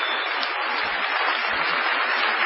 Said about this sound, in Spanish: Enos aquí en Bahía Blanca, en el bello Teatro Municipal, con muchísima gente amiga. Vamos a saludar inmediatamente con una cerrada ovación